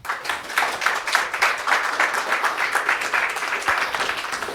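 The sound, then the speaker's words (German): A conference crowd applauds steadily to welcome two speakers presenting on the file-sharing app platform OpenCloud, many hands clapping in a dense, continuous patter at an even loudness for the whole stretch, with no voices over it. “Großen Applaus.”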